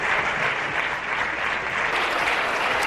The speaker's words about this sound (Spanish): Pues eran los aplausos que recibía Casado de la bancada popular, entre los que estaban muchos de los que ayer precisamente le dieron de lado y pedían un cambio de rumbo en el partido.